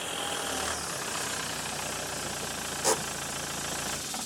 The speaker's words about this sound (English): It's 1 a.m. in the morning, and a slightly drunk Steve is parking his car in his parking space in the car park when the screen on his smartphone lights up.